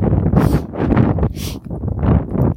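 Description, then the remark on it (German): Strong wind buffets the microphone outdoors on an open area during a long-distance run, in a loud, continuous low rumble, with sharper hissing gusts breaking through every second or so. “Jetzt haben wir ein bisschen viel Wind natürlich.”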